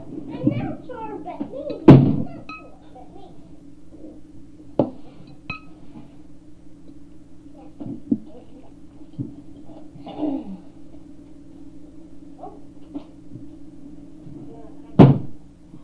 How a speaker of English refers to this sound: You're very handy with that chair. Yeah. But look, I can carry it.